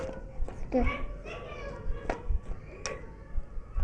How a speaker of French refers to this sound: Et qu'il y a dans la cour. Oh, il y a des petits enfants qui jouent, tu sais.